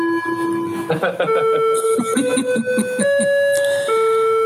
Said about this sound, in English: Is that the clock again? That's my clock, sorry guys.